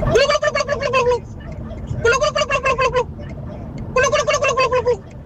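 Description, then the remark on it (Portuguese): A male caller from Oliveira das Meis imitates a turkey gobble, letting out three rapid, warbling bursts about a second each, loud, separated by brief pauses. “E então vamos lá fazer a minha versão do peru.”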